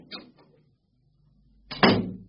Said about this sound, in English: I've just bolted the door.